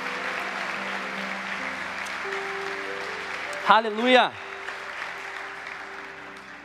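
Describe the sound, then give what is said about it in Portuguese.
An audience applauds Jesus during a sermon, a dense, continuous wash of clapping from many hands, while a single voice briefly calls out over it near the middle. “Será que você pode aplaudir a Jesus por isso? Aplauda Ele, aplauda Ele.”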